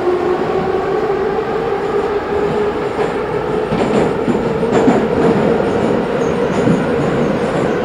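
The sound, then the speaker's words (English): A subway train rumbles steadily along the tracks, with a sustained mechanical hum, a whining tone, and scattered metallic clicks and clatters over a constant, loud roar. No one speaks. “So we take this one stop.”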